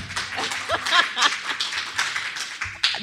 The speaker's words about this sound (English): I'm so glad he's here, by the way. Can you please clap for my husband? I'm so happy.